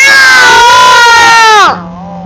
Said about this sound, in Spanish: No, no hay que gritar tanto porque sabes qué pasa, que si no es como en la clase, se oye mucho y molesta. Hay que hablar alto y fuerte para que nos oigan fenomenal, pero no hay que gritar, ¿vale?